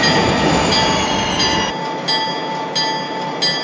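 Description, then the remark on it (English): A train rolls to a halt, its low rumble dropping away partway through while high, steady brake squeals and hissing carry on, fairly loud, with no voices. “Go ahead and bring it to a stop.”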